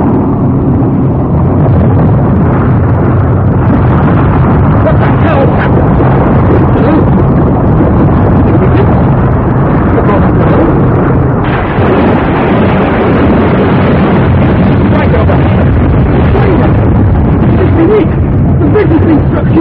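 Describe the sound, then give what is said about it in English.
A ship's engine, slowing down, churns in a loud, heavy low rumble that runs unbroken for the whole stretch, with a faint murmur of voices mixed into the din. “The engine sounds different. What are we doing? Slowing, I think.”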